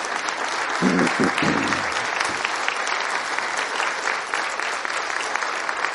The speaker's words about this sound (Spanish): Los demás estamos felices con ustedes. A ver, les damos un aplauso.